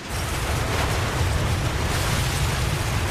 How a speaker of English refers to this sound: A gigantic wave breaking.